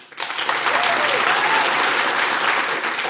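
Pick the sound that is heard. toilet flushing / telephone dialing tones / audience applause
audience applause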